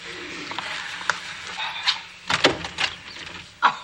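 A front door is opened: a few sharp latch clicks and knocks, then a scraping swing and a final thump, with no one talking over it.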